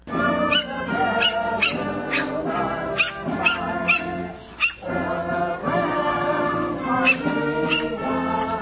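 Dogs bark repeatedly in short, sharp bursts over a steady stretch of patriotic songs playing outdoors at the 4th of July Mutt Strut in Moscow's Friendship Square at midday on the 4th of July, with the barks coming at a fairly regular rhythm.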